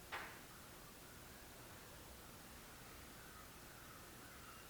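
A single crow caw sounds briefly at the very start, then fades into a steady, quiet background hiss with no further calls.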